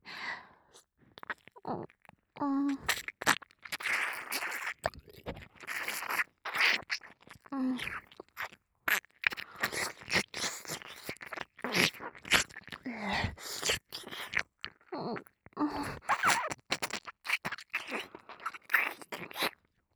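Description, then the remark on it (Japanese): Continuous wet ear-licking mouth sounds with the tongue reaching deep into the ear: dense, crackly smacks and slurps with clicky tongue noises, steady and fairly loud, occasional soft breaths, no talking. “頭の中に直接水音が響いて、より体が敏感になっていく。”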